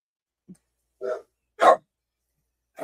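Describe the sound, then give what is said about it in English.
Dogs barking in a few separate, sharp bursts spaced about half a second apart, the loudest in the middle, with silence between barks and no talking. “The dogs are all up in arms because Moose is here.”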